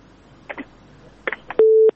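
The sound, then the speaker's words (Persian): A few soft clicks and line crackles, then a single loud, steady mid-pitched beep of a telephone busy tone after a listener's call to a phone-in show was disconnected; it cuts off abruptly. No one speaks. “ښه یو بل اوریدونکو راخلو د تماس قطع شوې ده.”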